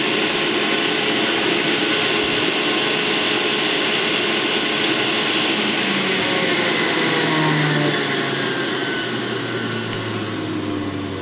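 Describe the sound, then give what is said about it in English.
A juicer runs during an experiment measuring its magnetic and electric waves with a Gauss meter, with a loud, steady motor roar and a broad whirring hiss, holding constant for several seconds before its low hum dips slightly in pitch near the end. “So I just turned off the juicer, so it should be easier for you to hear what I'm saying.”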